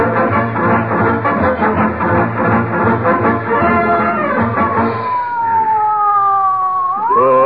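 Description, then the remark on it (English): A loud ambulance siren wails as the ambulance heads to the hospital, its pitch sliding slowly downward and then sweeping back up at the end, after a dense, pulsing roar of overlapping tones with no talking. “Call an ambulance.”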